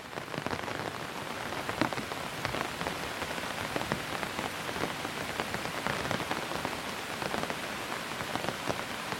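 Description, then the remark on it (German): Rainwater runs in thin threads from the edges of two low oriel windows overhead, a steady dense patter of many small, sharp drops over a constant soft hiss, with no voices. “Und das Wasser läuft in zarten Fäden von ihren Kanten.”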